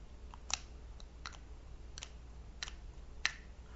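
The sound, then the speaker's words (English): A handful of tiny, crisp metallic clicks from a small tube of bright red lipstick, spaced irregularly against a quiet background with no voices. “Hear the tiny metallic clicking.”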